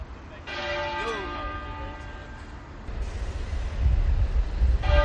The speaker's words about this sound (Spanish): 99 veces doblaron las campanas de esta abadía de Westminster, una cada minuto y una por cada año del duque de Edimburgo